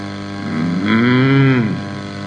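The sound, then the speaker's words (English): A cow lets out one long, drawn-out moo, fairly loud, swelling up and then trailing off over about a second, with a low steady background hum and no talking. “This is what the cows are trying to tell us, right?”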